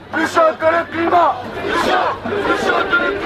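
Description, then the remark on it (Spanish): Thousands of French secondary-school students at a Friday climate strike shout the slogan "hotter than the climate" together in loud, ragged bursts, many voices rising and falling in rough unison with a dense roar of babble underneath. “Somos más calientes que el clima, gritan miles de estudiantes de secundaria franceses que, como millones de bachilleres en todo el mundo, siguen cada viernes la inédita huelga climática lanzada por la joven activista sueca.”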